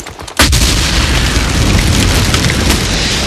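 grenade explosion

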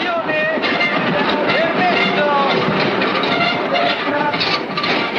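train

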